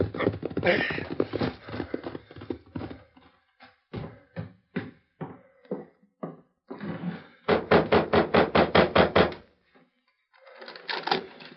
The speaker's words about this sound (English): The hard trail in front of Pete Lander's small ranch house echoed with the hoofbeats of Clay Harper's horse as he reined up sharply and dismounted.